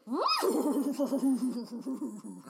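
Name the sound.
horse whinnying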